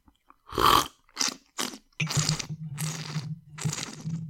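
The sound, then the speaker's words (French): Someone noisily slurps tea while tasting it, rolling the liquor in the mouth, in a series of about six short, airy, hissing bursts, the later ones longer and accompanied by a low humming undertone. No talking. “On fait du bruit, en fait, quand on goûte le thé, puisqu'on fait rouler la liqueur.”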